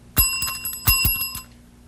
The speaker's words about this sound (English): The bell. See, when you listen carefully, that's not the surf machine, and it's not this bell. No, it's my telephone.